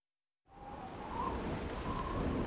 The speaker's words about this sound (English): Oh, it's very windy today. Yes. Oh, my hat!